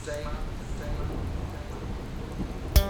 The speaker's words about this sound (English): Notice how the rain and the thunder comes down, oh so naturally.